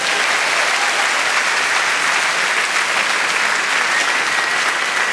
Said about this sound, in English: Well, congratulations on one wonderful marriage and one that is falling apart at the seams. Ladies and gentlemen, please give them a round of applause.